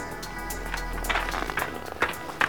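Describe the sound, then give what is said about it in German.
Quick, hurried footsteps of a woman crunch over snowy ground in a fast, steady rhythm as she hurries from a landed helicopter toward a group of girls, moderately loud, with no voices. “Sie stieg aus und eilte mit schnellen Schritten auf die Mädchen zu.”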